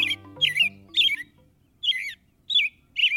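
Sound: american robin calls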